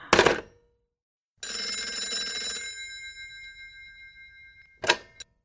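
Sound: telephone bell ringing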